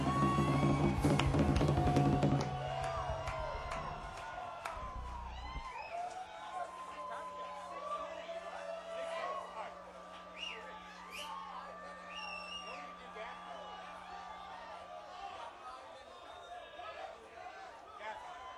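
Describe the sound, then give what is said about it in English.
A live concert crowd at Bear Creek cheers and whoops without a break for the band. It is loudest in the first couple of seconds, then settles into a steady roar with scattered high shouts and whistles over a low sustained hum. “Hey, thank you so much for this support. Look at this. You all know how to make a band feel good right here.”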